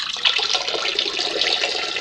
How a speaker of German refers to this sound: Ach, seufzte jemand erleichtert, während es gleichzeitig zu plätschern begann. Es hörte sich an wie ein kleiner Springbrunnen.